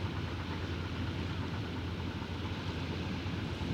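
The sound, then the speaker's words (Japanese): Ocean waves make a steady, low, rumbling wash that holds an even level throughout, with no clear breaks between surges and no voices. “今日は波の音がしています。”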